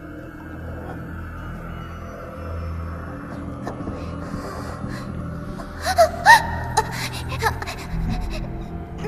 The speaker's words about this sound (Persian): صدای چیه؟ فکر کنم یکی اینجاست. آها، همون روح معروف.